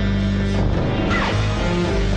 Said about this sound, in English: so partial to the whole soundscape accompanying the Rastan Warrior Robot Cyber Massacre, which mashes together some excellent cyber groans, Peter Howell's clanky incidental music, and the Billy Whiz-like whooshes of said unitard-clad killing machine.